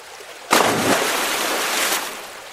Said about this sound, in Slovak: Že vlčko nevedel kam z konopy. Tiež skočil do rieky.